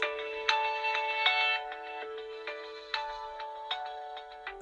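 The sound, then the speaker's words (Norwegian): A mobile phone ringtone for an incoming call from work plays a bright, tuneful melody of repeating electronic notes with regular plucked accents, steady for several seconds, with no one speaking. “Du ser hvem som ringer, eller?”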